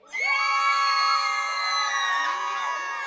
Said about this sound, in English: The very first thing we do when girls come to camp is we have scream circle. So we all make a circle and we hold hands and we go girl by girl and scream as loud as we can, like just like the biggest tiger scream that you possibly can.